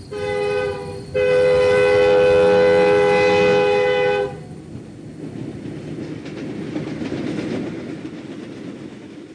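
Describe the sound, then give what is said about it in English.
A train horn blares loudly for about four seconds, then gives way to the steady rumbling and clatter of the train rolling along the tracks. “a lone female motorist may see a train arriving from the left”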